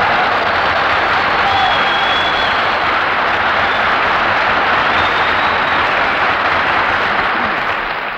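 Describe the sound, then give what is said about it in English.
Sustained applause from a studio audience at a radio broadcast, greeting Phil Harris's entrance: a dense steady roar of clapping that holds at full strength for about eight seconds before easing slightly at the end, with no voices over it. “Say, Phil, why is it every time we broadcast from a new place, you always make your entrance by asking for applause?”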